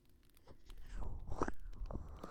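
crackling campfire

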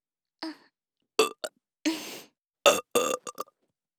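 woman burping

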